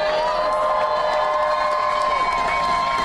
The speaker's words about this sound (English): Just before we take a question, since I know we have some friends here with us, if we can first have a round of applause for the Starbucks workers themselves.